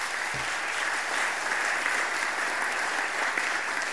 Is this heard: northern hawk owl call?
no